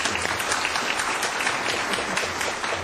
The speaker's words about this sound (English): So let's give a round of applause and thank our panelists for joining us today.